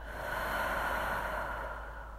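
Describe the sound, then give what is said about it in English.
A long, slow breath out during a guided relaxation breathing exercise, a steady airy hiss that holds at an even loudness for about two seconds and tapers only slightly at the end, with no talking. “Right now, just focus on your breathing”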